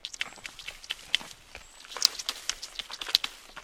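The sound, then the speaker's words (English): Caterpillar droppings (frass), like light brown dirt, fall from the forest canopy in still, windless air in a soft, irregular patter of tiny ticks and taps, like light rain on leaves, quiet and steady with no voices. “When the wind is still, you may even be able to hear it raining down from the forest canopy.”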